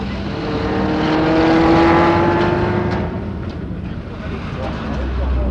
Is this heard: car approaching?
yes